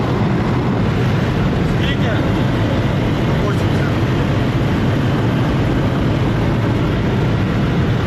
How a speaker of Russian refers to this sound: Там концентрація FPV зашкалює. Ось і попередження, що далі краще не їхати. Мами газ підлогу і помчали дуже швидко.